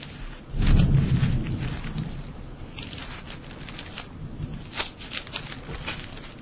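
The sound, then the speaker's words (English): A deep rumble of thunder swells in the low end and slowly fades, while steady rain patters and crackles across the whole scene with scattered sharper drops. “Getting a little thunder boomer here.”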